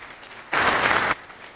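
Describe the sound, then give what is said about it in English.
A short, loud burst of audience applause welcoming a speaker at a tech talk on privilege separation in Go: dense, crackling clapping that starts abruptly, lasts just over half a second, then cuts back to a quiet hiss. No one speaks. “Round of applause.”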